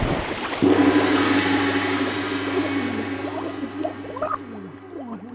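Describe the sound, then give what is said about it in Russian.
A sudden splash as someone trips over a stone and plunges into river water, followed by a long stretch of bubbling and gurgling over a low, steady hum. “Вдруг о камень он споткнулся, прямо в речку окунулся.”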